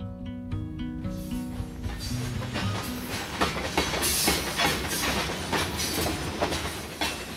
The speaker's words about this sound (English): It's a familiar sight in much of the country. Long, slow trains of 100, 120 cars or more, each piled high with dull black coal. 70% of all American coal moves by rail, often 1,000 miles or more to its destination.